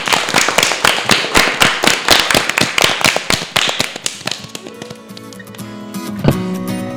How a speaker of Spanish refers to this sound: Un aplauso para todos.